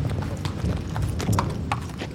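horse hooves clip-clopping

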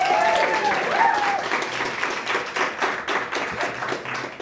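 round of applause

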